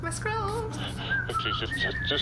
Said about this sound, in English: It's weird that she's allowed to whistle in the library.